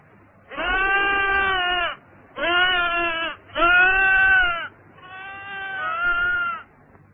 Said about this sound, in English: I hear a sheep.